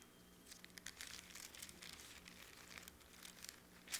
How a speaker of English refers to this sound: You don't hear rustling of pages much anymore with the apps and everything.